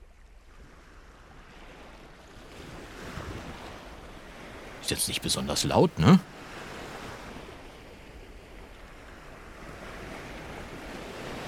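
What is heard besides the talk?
ocean waves surf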